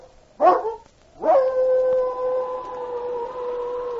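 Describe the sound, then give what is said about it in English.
A dog lets out a short yelping cry, then raises her head and launches into a long, sustained wailing howl that holds a steady pitch and slowly fades, loud with no talking. “An instinctive fear moved through her body, and she raised her head to give forth a long, wailing howl.”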